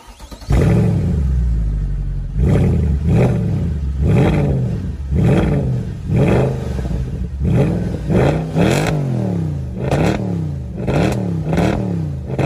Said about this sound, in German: Ich wiederhole mich, also das ist wirklich ganz nach meinem Geschmack. Also es ist wirklich richtig echter Sound, nichts reinkomponiert, nicht irgendein Fake-Sound, wirklich schönster V8-Sound. Und es klingt so, wie ein AMG klingen sollte.